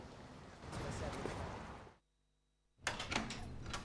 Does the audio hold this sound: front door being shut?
yes